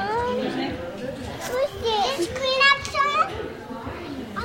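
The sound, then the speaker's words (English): Toddlers' and preschoolers' high voices chatter, squeal and call out over a busy indoor hubbub in a children's soft play area with a sand pit, a steady mix of playful shrieks and echoing babble. “Toddlers and preschoolers tumble across a soft play area or dig in the sand pit.”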